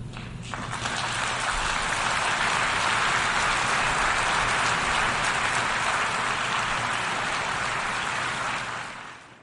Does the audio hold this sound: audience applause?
yes